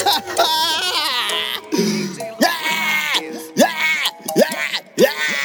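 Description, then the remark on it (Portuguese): A voice lets out exaggerated, theatrical fake crying: a loud string of rising and falling whiny sobs and wails, repeated in quick bursts for several seconds. “Ele tá chorando igual Chiquinho do Chaves!”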